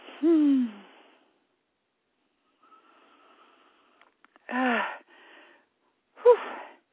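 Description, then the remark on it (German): A woman huffs and puffs heavily, three separate breathy, slightly voiced exhalations with falling pitch, separated by pauses, fairly loud with no talking. “Sie schnauft jetzt ein bisschen, weil ich sie mit einem ihrer ehemaligen Sätze konfrontiere, aber das ist gut so.”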